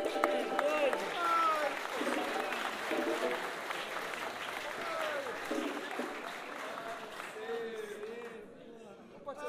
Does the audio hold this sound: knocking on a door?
no